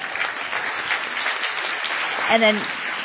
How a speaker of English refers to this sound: So another round of applause for all of them.